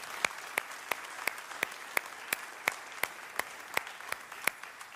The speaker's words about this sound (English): Let's give a round of applause, just thanking the Lord for our sister.